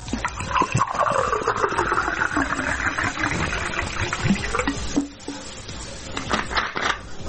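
Bottled water glugs steadily from a bottle into a glass in Zrenjanin, Serbia, for about five seconds, with a shifting tone as the glass fills. A few brief splashes and clinks follow.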